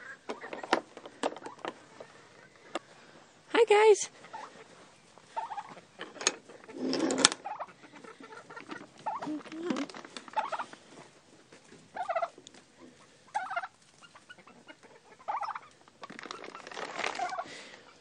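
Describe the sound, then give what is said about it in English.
Chickens in a coop cluck in irregular bursts, with scattered short clucks, scratchy rustling and a louder squawk partway through. A person briefly speaks once. “And now we'll look in on the chickens.”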